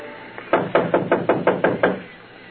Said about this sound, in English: Go on, knock.